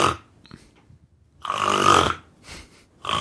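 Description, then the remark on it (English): A voice imitates snoring: a short rough snort, then a long loud rasping snore, followed by softer breathy snorts, with no talking. “so I snore and then my dog snores and I snore and then my dog snores”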